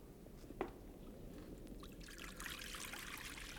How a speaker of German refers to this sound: sei so gut und gieß das Wasser in die Schüssel.